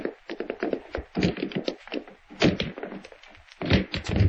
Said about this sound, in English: Break the door down, Sheriff. I know something's happened to him.